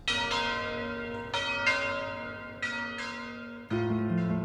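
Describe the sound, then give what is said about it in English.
Large bells in the town square of Florence, rung on Petrucci's order as an alarm signal that the city was under attack, clang repeatedly in an uneven, overlapping peal, each loud strike ringing out with long resonant overtones that blend into a continuous, urgent din. No voices are heard. “Then, Petrucci ordered that bells be rung in the town square.”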